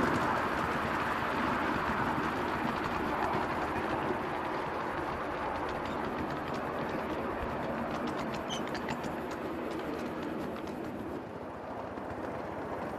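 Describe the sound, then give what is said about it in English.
A 1/8 full-size miniature steam locomotive accelerates and runs steadily along rails with a continuous rumbling chug and faint clattering, fairly loud throughout, with light bird chirps in the background. “Now, quite an acceleration for a locomotive.”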